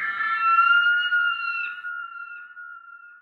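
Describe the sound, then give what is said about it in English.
A shriek of a Haast's eagle (poakai), the world's largest eagle: one long, piercing, high-pitched cry, loud at first, holding a steady, slightly falling tone before gradually fading out, with no voices. “And the occasional shriek of the poakai, the world's largest eagle, which hunted these moa with claws as big as a tiger.”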